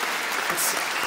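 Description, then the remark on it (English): Dense, steady applause from an audience giving a round of applause for the ladies, a continuous crackle of many hands clapping at an even, fairly loud level with no voices standing out. “Let's have a round of applause for the ladies.”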